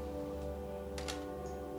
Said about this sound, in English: So gong in the very low part of the orchestra.